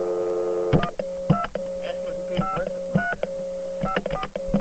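telephone dialing tones

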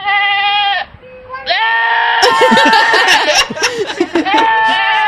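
goats and sheep bleating

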